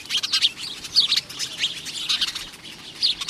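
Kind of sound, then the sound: bird, house sparrows chirping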